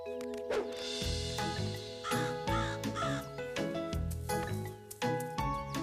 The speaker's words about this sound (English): Oh, those pesky crows. I wish I could keep them out of my garden.